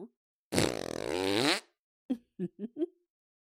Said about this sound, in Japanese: お姉さんにおならぶっかけられて死んじゃうなんて。って最高の幸せ者じゃない？くさーい香りに包まれながら天国行っちゃいなさい。